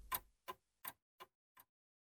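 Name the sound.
clock ticking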